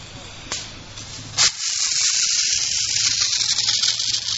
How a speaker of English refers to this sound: He fits a 6-foot-tall metal cock key into the valve and gives it a quarter turn to the left. This is how the spray showers must be turned on and off each day.